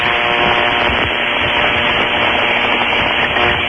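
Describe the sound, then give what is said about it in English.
A steady, harsh bubbling gurgle from a bong, heard through a crackly, band-limited cordless phone line, loud and continuous for a few seconds with a faint buzzing hum and no voices. “It's either an electronic bong or a bad cordless phone.”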